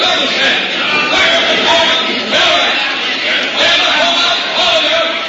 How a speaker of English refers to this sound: The crowd here seems to be breaking up, somewhat roughly herded by the soldiers, and we can hear them.